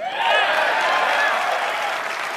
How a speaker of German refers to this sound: Und das meine ich mit ganz kurz, ich spiele ganz kurz diesen Clip ein, wo Phil Spencer auf der Bühne steht, einfach nur Gaming sagt und alle klatschen.